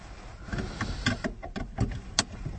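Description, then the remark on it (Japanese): Muffled, enclosed ambience inside a car with the door shut and the engine not yet started, picked up by an IC recorder placed on the dashboard, a steady low rumble broken by several soft knocks and clicks at irregular moments, with no one speaking. “で、今こう喋りながら、IC レコーダーは車のダッシュボードの上のあたりに置いて、それで喋ってるんですが、来る気配なし。”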